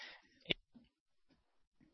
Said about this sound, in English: Sounds like you're typing. It wasn't me typing. It was no, you no, typing. It was me. It tells me. Sounds like you're typing. So we muted your mic.